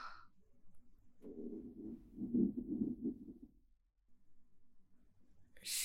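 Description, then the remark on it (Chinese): A stomach growls in a low, bubbling rumble that swells and wavers for about two and a half seconds before fading out, with no talking over it. “少爷，您肚子叫了。”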